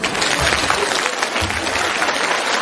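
Steady applause from an audience fills the whole stretch, a dense crackle of many hands clapping at once, loud and sustained without pause, with a faint murmur of voices underneath.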